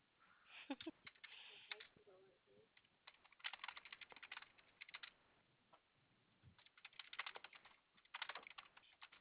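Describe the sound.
Rapid clattering of computer keyboard keys in several bursts with short pauses between them, fairly crisp and steady, with a faint voice murmuring briefly near the start, as a customer's last name is typed during a phone call.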